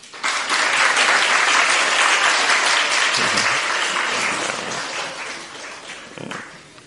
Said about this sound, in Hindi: ताली बजाओ।